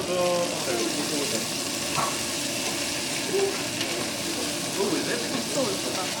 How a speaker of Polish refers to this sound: Cebulę z czosnkiem musimy razem przesmażyć.